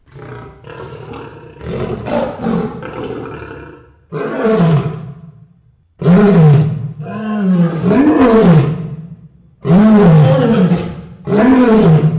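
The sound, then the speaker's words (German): A lion roars loudly in a series of deep, rumbling bursts separated by brief pauses, with no other sounds around it. “Seid ihr in Afrika und ein richtiger Löwe läuft auf euch zu, wie in diesem Bild.”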